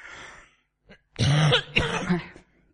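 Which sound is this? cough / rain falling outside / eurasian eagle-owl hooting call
cough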